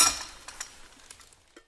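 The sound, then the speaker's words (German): A short burst of pouring coffee, then a handful of light, irregular clinks of cups and spoons, quiet with no voices. “Soll ich mal hier Kaffee einschenken oder so?”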